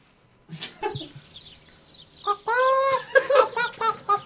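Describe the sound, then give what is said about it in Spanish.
A hen clucks in a quick series of bright, nasal calls that come in short bursts after a few soft rustling noises, moderately loud. “Escuchame un segundo, gallina.”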